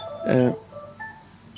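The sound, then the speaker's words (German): A single short burst of an electronic telephone ring, bright and fairly loud, fades quickly into faint lingering tones against a quiet background. “Jetzt das Telefon ist.”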